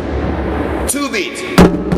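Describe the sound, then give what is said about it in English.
One loud, booming drum hit, a single big bang, lands sharply after a brief murmur of voices, ringing out briefly before everything settles again. “When I say beat the drum, I need you to count.”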